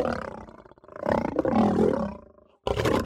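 A loud lion roar sound effect rumbles, a deep growling bellow that swells, breaks briefly, then surges again before a short pause and a final burst.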